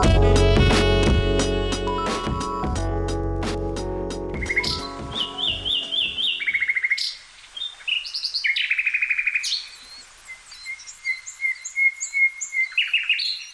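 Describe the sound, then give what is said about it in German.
After a loud, sustained tonal passage fades out, birds chirp and twitter in quick, bright bursts, clear, filling the last half with overlapping calls; no wind or leaf rustle stands out. “Idyllisch, oder? Vogelgezwitscher, das Rascheln der Blätter im Wind und der Geruch von Blumen.”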